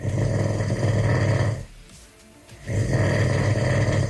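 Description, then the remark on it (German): A man snores loudly and close by, two long rasping inhalations separated by a brief quiet pause, with no talking. “Nicht zu überhören, das Schnarchen der Brandenburger und Brandenburgerinnen.”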